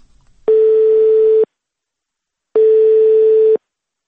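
A telephone ringback tone sounds twice during a phone call to the town of Novokuznetsk, each steady electronic burr lasting about a second, separated by a long silent gap, clear as if heard through the handset.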